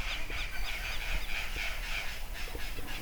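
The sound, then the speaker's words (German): Crows caw repeatedly in a forest across from a lake, harsh overlapping calls drifting out of the woodland over a steady outdoor background hiss, with no talking. “Aber drüben im Wald sind die Krähen ganz schön am Schreien.”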